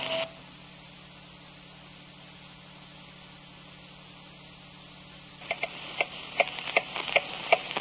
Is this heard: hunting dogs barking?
no